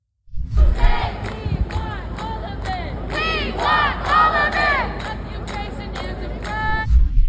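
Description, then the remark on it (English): A large crowd of protesters chants slogans in loud, rhythmic unison, voices rising and falling in repeated phrases over a steady roar of noise that continues throughout. “Genocidal slogans being chanted, as even the Colombia president recognized in congressional testimony, this is in fact anti-Semitism.”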